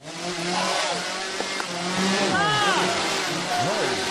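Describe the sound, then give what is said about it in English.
A chainsaw engine buzzes and revs continuously as people from a local haunted house do a chainsaw scare act. Its pitch swoops up and down in several surges, with voices mixed in underneath. “It was just sounds of chainsaws and men in these horrible masks.”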